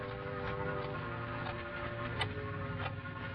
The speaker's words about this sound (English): It was so quiet, I could hear the clock ticking.